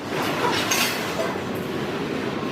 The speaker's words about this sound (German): Der Güterzug der Angst und der Hoffnung von Migranten. Der Güterzug, der sie vom Süden Mexikos bis in den Norden bringen soll. Im Moment nähert sich der Zug einer Migrantenherberge.